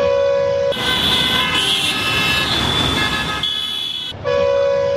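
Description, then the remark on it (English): Loud, continuous vehicle horns blare in busy traffic in Bangladesh, several overlapping honks sounding almost nonstop, with brief shifts in pitch and a short lull near the end before honking resumes. “The blaring of horns from vehicles is just a part of daily life.”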